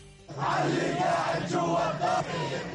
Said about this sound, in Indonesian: Kerumunan massa di Ramallah ini menuntut aksi balasan untuk pembunuhan Aruri, meneriakkan slogan-slogan dan meminta kepada Syed Hasan Nasrallah, Sekjen Hizbullah di Lebanon, untuk mengambil tindakan.